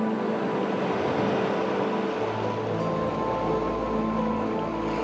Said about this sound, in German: Du erblickst einen friedlichen, wunderbaren Strand mit einem schönen Meer. Der Rhythmus der Wellen vertieft deine Entspannung.